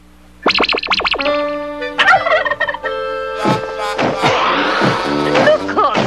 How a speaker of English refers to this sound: There's a turkey flying around the room. Don't be ridiculous. Turkeys don't fly. They sit on platters.